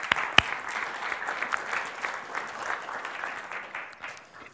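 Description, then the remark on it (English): An audience applauds steadily for several seconds to welcome a couple invited up to the front, a dense crackle of many hands clapping at once that stays fairly even before tapering slightly at the end. “And why don't we go ahead and give them a round of applause to welcome them.”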